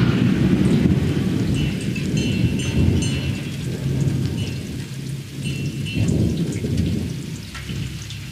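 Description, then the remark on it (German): A mixed recording of tractor noise and rumbling thunder: deep thunder rolls continuously beneath steady rainfall, the low growl swelling and fading in loud waves with a constant hiss of rain on top; no voices. “Wie könnte es epischer sein als mit dieser Mischaufnahme vom Traktorengeräusch und Donnergrollen.”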